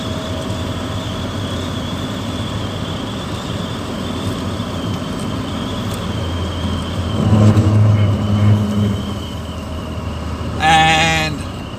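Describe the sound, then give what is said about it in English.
A steady engine drone and road rumble fill the cabin of a moving car, swelling briefly partway through, then a short rising whine near the end. No one speaks. “Fuck, it's nice having a car with a heater in it.”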